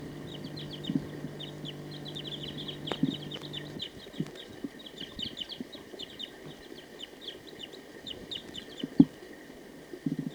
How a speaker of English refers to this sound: There's a wild bird here. Wild bird. It's recording the wild bird again.